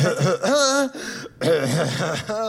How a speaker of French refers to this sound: tiens, à toi de tousser, s'il te plaît.